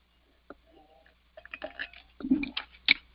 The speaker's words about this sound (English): Let me give a pause for just a second and get a sip of coffee.